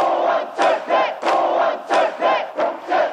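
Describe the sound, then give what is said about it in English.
A large crowd of pro-democracy protesters in South Korea in June 1987 chants in unison, shouting "Down with the dictatorship": loud rhythmic slogans repeating in bursts roughly every half second, many voices blending into a continuous roar between the beats. “Pro-democracy protests swept the nation. Down with the dictatorship, the activists shouted.”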